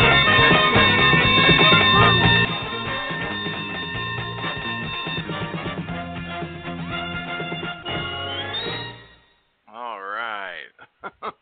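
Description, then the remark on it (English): A loud winning bell sound effect, played from a switchboard to mark reaching a goal, rings continuously for about nine seconds, bright and clanging with a busy jingle-like texture, then stops abruptly and a few brief warbling tones follow. “This is the winning bell.”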